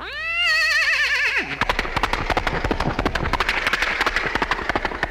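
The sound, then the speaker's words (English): A horse lets out a loud, wavering whinny, then rapid hoofbeats gallop in a steady drumming rhythm, with no voices, played from the front end of a car on the outer drive in Chicago at 7 o'clock in the morning. “So I picked up the microphone, gave him the sound of a horse braying and galloping out of the front end of the car.”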